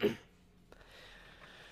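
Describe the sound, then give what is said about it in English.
A short, gruff throat clearing bursts out at the very start, then fades into quiet background hiss with one faint click partway through. No one speaks. “I cleared my throat a little bit, but it didn't fully work.”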